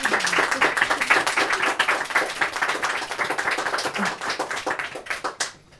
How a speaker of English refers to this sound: And can we have just one last huge round of applause for